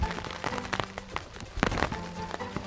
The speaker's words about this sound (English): I am podcasting in the middle of a rainstorm. Rain is not a big deal, but the thing that is the lightning and thunder.